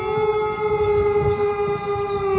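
A wolf howls in one long, unbroken note, holding a steady mid pitch with thin overtones for the whole stretch, loud and alone with a low rumble beneath and no voices.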